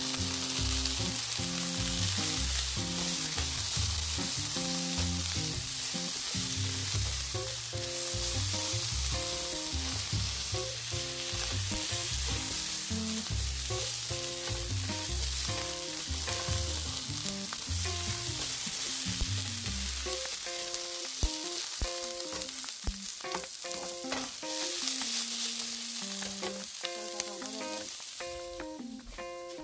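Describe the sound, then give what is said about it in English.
Cabbage frying in a pan, a loud, steady sizzle and crackle that runs without a break, with occasional stirring scrapes and a melodic tune playing underneath. “I'm going to take you over here so you can hear the cabbage.”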